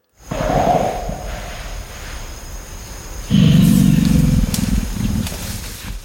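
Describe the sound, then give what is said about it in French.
A deep, rumbling animal grunt, a deeper grunt vocalization called a 'belge', rolls on for several seconds. It swells into a louder, thicker burst partway through, then settles back to a low, gravelly drone. No voices are heard. “Et le deuxième, c'est un grognement un peu plus profond qu'on appelle belge.”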